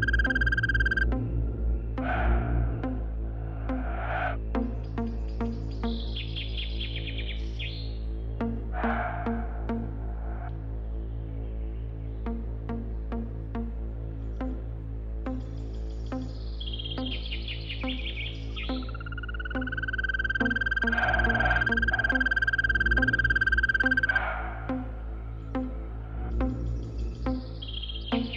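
Birds in a forest chirp and whistle in short bursts and one long held note, set over a steady droning musical background that plays throughout, with no one talking.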